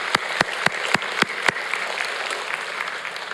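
An audience applauds for everyone taking part in the fifth session of a happiness group: a handful of sharp, evenly spaced claps stand out at first, then blend into a steady, even patter of many hands clapping, with no voices.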